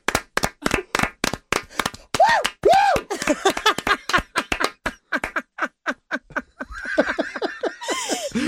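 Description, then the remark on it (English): Sharp, rapid hand claps keep going nonstop for several seconds, mixed with squeaky, rising-and-falling tones, before a noisier burst of claps and hiss takes over at the end. “Is clapping so long, so funny.”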